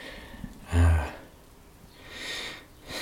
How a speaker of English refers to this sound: It always starts with breathing.